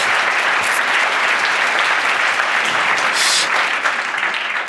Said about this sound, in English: So give him a warm applause, a warm welcome. Light the fuse, put it in play